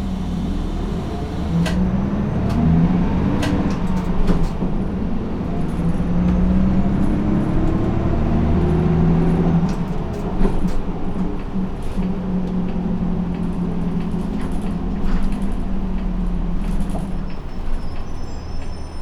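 Inside a moving city bus heading to the next stop, Sahara: a steady engine rumble whose pitch climbs and falls as it accelerates, with occasional rattles and clicks from the cabin and no talking.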